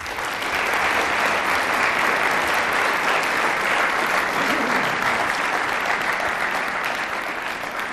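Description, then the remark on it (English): An audience at a discussion event hosted by a Christian Union claps steadily for several seconds for the guests, a dense, sustained wave of applause that stays loud and even throughout, with no voices standing out. “So please join me in a round of applause for our guests.”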